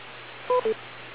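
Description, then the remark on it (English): Two short electronic beeps in quick succession on the TechNet radio net, each a steady two-note tone like a keypad tone, marking a 10-second listening pause for further check-ins, sounding over a constant low hiss of radio static with no talking. “So we're going to give one more listen for 10 seconds beyond the beep.”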